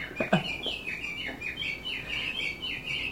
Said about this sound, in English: I hope that gets picked up. This one will do. An English friend gave me that one, which is Japanese birds.